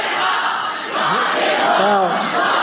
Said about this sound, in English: Look at all these hopeless women, too. Look. Cheering their pedophile god.